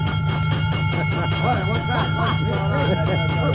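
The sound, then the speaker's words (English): A fire engine bell rings nonstop in a loud, steady metallic clamor in front of a firehouse, with voices briefly audible underneath the ringing. “Oh, ring that bell,”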